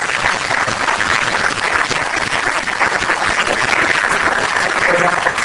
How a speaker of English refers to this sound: A round of applause